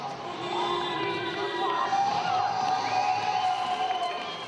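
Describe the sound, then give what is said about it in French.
Applause, cheering and music from windows, a daily ritual during the first lockdown to thank healthcare staff; a steady, dense wash of clapping, shouts and whoops with some whistle-like tones rising over it, holding at a fairly loud level throughout. “Chaque jour, comme un rituel, musiques et applaudissements tombent des fenêtres pour remercier le personnel soignant et les nouveaux héros du premier confinement.”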